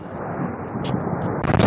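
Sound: explosions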